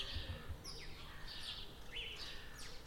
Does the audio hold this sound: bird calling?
yes